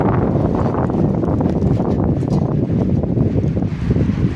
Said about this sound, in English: Just a huge gust of wind coming down the road. Seeing leaves picking up and debris flying.